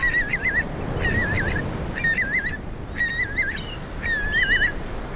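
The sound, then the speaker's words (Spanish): Shorebirds (waders) give five loud, trilling calls at roughly one-second intervals over a steady wash of surf at the river mouth of Boca del Río on Carnota beach, A Coruña, on Spain's Costa da Morte. No one speaks. “Junto a los limícolos están los archibebes, zarapitos, una serie de pájaros que viven en las costas, los vadeadores.”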